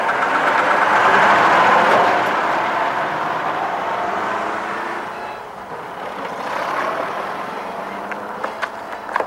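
A pickup truck driven by Sal, owner of Bagdad Café, rumbles, then gradually fades as it continues on its way, leaving a quieter background with a few faint clicks.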